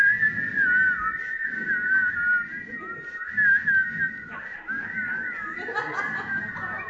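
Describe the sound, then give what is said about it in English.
A person whistles a continuous, wavering melody for several seconds, the tone sliding up and down over a soft background of murmuring and light laughter. “Let's whistle over”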